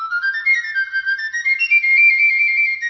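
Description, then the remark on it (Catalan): A flabiol, a small Catalan flute, gives the starting signal, playing a bright, high melody alone, opening with quick tongued notes that climb in pitch before settling into a longer sustained tone. “Un flabiol dona el tret de sortida.”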